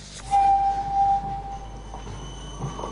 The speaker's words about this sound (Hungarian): Hajnali 4 óra. A kocsiszínből ismét kigördülnek a kombinók. Mostantól újra közlekednek napközben is.